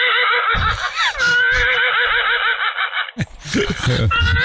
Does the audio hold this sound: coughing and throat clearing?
no